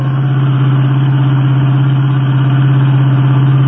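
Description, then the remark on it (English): A car engine runs steadily and loudly during a road chase, a constant low mechanical drone with a rhythmic throb, like a vehicle cruising at speed, with no voices over it. “Well, it's not getting away from us again. I'm going to force it to the curb.”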